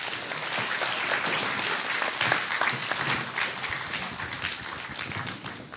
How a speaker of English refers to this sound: So, thank you so much, guys. Let's give them a clap.